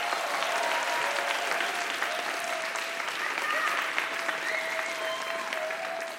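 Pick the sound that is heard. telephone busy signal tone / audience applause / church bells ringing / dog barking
audience applause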